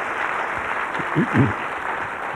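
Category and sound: crowd, audience clapping hands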